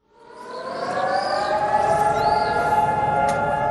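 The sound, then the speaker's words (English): A civil defense siren rises and then holds a steady, sustained wail, loud and continuous with layered harmonic tones. It is the two-minute siren sounded in Israel on Memorial Day, a Tuesday, commemorating fallen Israeli soldiers and victims of terror attacks. “Israelis stood still Tuesday for a two-minute siren commemorating the more than 23,700 Israeli soldiers killed, as well as more than 3,000 victims of terror attacks.”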